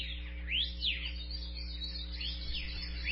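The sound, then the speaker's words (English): Repeated high, sweeping bird calls rise and fall over a steady low hum, with a few clear chirps spaced out across the stretch and no voices present. “The birds are back.”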